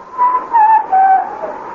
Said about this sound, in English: And then, the sound of whistling. Faint, but recognizable.